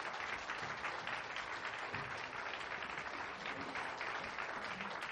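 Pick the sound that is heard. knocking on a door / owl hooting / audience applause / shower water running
audience applause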